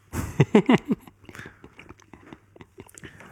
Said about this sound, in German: Bevor ich jetzt hier noch weiter schmatze, genau.